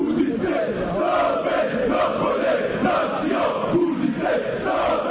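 A large crowd of supporters from various football fan groups across Bosnia and Herzegovina chants and shouts in protest against the leadership of the Football Association of Bosnia and Herzegovina, a dense, steady roar of many voices with rhythmic rises and swells, loud throughout the whole stretch.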